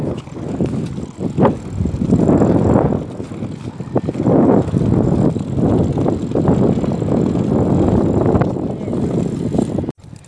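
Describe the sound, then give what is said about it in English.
Riding a bicycle outdoors to a coffee shop on a windy day, with a steady rolling whir, gusts of wind buffeting the microphone and occasional ticks from the drivetrain, loud throughout. “So I jumped on my bike and rode to the coffee shop instead.”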